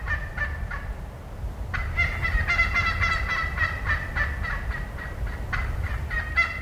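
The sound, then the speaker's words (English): A wild turkey gives a rapid, excited series of yelps, bright and insistent, repeating in quick uneven bursts over a steady low rumble of background noise, with no one talking. “Then we have the excited yelp.”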